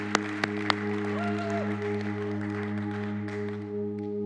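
A few scattered, polite golf claps from a church audience, three quick sharp hand claps in the first second, then only a steady low electrical hum with no talking.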